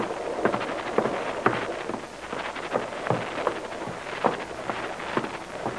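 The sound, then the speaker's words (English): Steady rain hisses over a boat running down a river on a dark night, broken by irregular louder drips and taps striking a hard surface, with a low rumble of wind beneath and no voices. “Wouldn't be so bad if it wasn't raining.”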